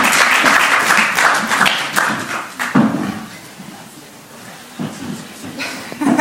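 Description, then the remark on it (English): A group of people applauds themselves, a dense wash of clapping that starts strong, thins out toward the middle, then swells briefly again before fading, with a few scattered claps trailing. “Give applause to yourselves for your great statue.”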